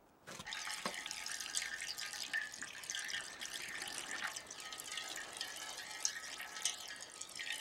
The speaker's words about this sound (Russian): Прошу осмотреть предлагаемую модель. Правда, вода здесь льется в масштабе 1:10.